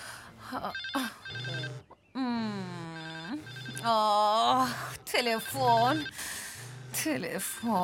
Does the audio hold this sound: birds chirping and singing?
no